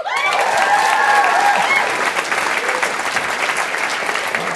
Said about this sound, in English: who are integral to the creation and development of this show who are not here tonight and would love if people could give them a little round of applause. And then I will try to take like a little commission off of that applause.